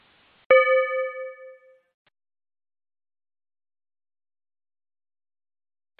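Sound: meditation chime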